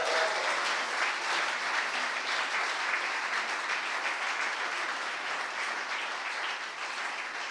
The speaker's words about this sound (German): Ja, könnt noch mal klatschen.